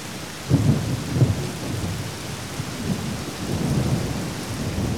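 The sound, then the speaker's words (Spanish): A thunderstorm with a steady hiss of heavy rain and low, rolling thunder rumbling through the background in a couple of deep swells, with no voices. “Tormentas, granizo, fuertes vientos que han causado inundaciones en calles y casas en Guadalajara.”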